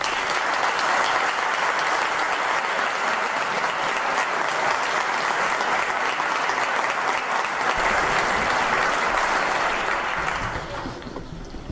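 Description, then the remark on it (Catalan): Sustained, loud applause from a large audience at a photography award ceremony, a dense wash of clapping that continues steadily for several seconds before starting to thin out near the end. “Un aplaudiment”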